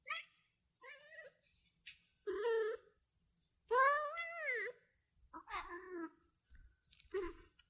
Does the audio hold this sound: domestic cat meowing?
yes